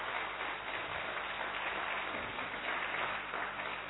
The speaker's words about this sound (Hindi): तो एक बार हम जोरदार तालियों से बनारसी भाई का धन्यवाद करेंगे।